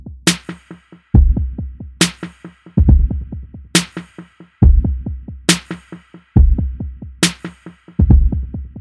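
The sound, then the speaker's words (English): A slow kick drum and snare pattern repeats, each hit trailed by a quick string of faint, bouncing 16th-note echoes that fill the gaps between beats; the drum part of a song's composition. No other instruments and no voices. “the drums, which begins with a simple kick drum and snare, with faint, bouncing 16th note echoes resounding after each hit.”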